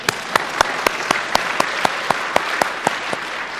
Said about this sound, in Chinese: 我们自己一起鼓掌，来鼓励鼓励我们。